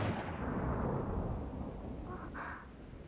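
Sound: loud thunderclap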